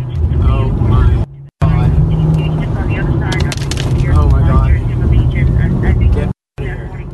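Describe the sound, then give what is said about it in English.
A car speeds along a back road through a loud, steady roar of wildfire flames rushing up from the canyons and over the car, with rushing wind, a deep engine rumble underneath and voices talking over the din, briefly cutting out twice. “Flames rushed up from the canyons, coming over his car. This is actual sound from a video he took on that drive.”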